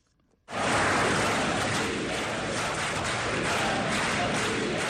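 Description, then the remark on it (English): A large crowd bursts into applause after a brief pause, a loud, dense wash of clapping that holds steady without letting up, during a speech by Syrian President Bashar al-Assad broadcast on state television. No one speaks over it. “The crowd applauded as President Bashar al-Assad described the conflict in Syria as an existential battle against terrorists and outside armies supported by powerful regional and international states.”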